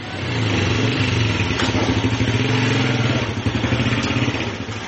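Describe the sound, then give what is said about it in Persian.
A motorcycle engine runs steadily, its low throbbing rumble sustained for the whole stretch with slight fluctuations in revs and no voices. The motorcycle is used to deliver honey to customers in the markets of Herat, Afghanistan. “او با استفاده از موتورسایکل به مشتریان خود در بازارهای شهر هرات عسل می رساند.”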